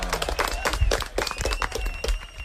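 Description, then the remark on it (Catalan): Steady, loud applause from a group after a correct answer in a quiz fills the whole stretch, with dense overlapping claps in a continuous rattling wash and a few voices faintly mixed in. “Fort aplaudiment.”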